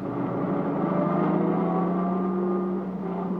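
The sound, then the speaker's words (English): A car engine idles and hums steadily as the vehicle eases forward to pull up in front of a cabin, its droning tone holding nearly constant throughout with no voices. “Yes, sir, pull up a little.”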